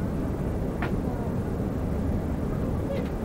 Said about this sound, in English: The engine sound has dropped, as you can probably hear. We're over sea now completely.